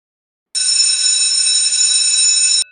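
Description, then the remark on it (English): A college bell rings in one loud, unbroken burst of about two seconds, bright and metallic with a shrill buzzing tone, starting and cutting off abruptly with no voices around it. “Yep, that's our college bell.”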